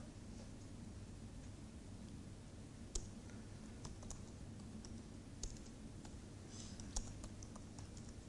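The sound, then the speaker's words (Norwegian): Quiet, irregular keystrokes on an English-layout computer keyboard while typing terminal commands, scattered clicks with a few sharper taps, set against a steady low hum and background hiss. No one speaks. “Jeg skal ikke skryte at jeg så drillet på engelsk tastatur.”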